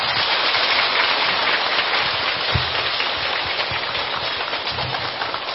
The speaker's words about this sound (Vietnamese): Xin vị dành trọng pháo tay.